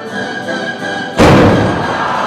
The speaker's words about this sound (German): der maß einen Meter im Durchmesser und ist dann auch mit einer großen Stichflamme explodiert.